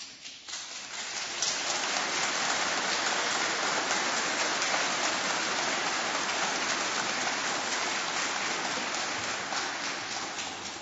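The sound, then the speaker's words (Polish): A large crowd applauds steadily for about ten seconds, a dense, even wash of clapping that swells in the first second and holds at full strength, with no voices over it; the applause is for the National Commission of the Solidarity trade union and its chairman Piotr Duda. “Te brawa, rozumiem, są dla Komisji Krajowej i na ręce pana przewodniczącego Piotra Dudy.”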